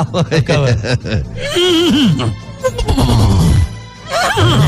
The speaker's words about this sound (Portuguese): cavalo. A sonoplastia de sua rádio.